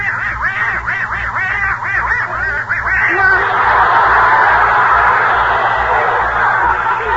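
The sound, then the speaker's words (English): Herman, a little pet duck, quacks downstairs in front of the fireplace in a rapid, chattering burst of about a dozen loud, nasal quacks over the first three seconds, then gives way to a steady rushing noise. “Only Gracie and Herman, their little duck, are still downstairs in front of the fireplace.”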